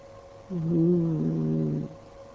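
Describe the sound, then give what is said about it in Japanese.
A single drawn-out meow, fairly loud, holding a steady pitch for over a second before cutting off, with nothing else sounding around it. “気味の悪い2つの目玉らしいものもそこにあった。にゃーお。”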